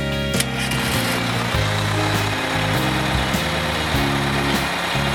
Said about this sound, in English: It's the school bus.